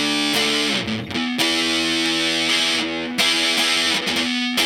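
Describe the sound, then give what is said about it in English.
A heavily fuzzed electric guitar plays sustained, saturated chords with a few quick changes and brief breaks, loud with no voices. “I mean, you get a broad range of tones, and I've been noticing that it really holds up under... under some fuzz.”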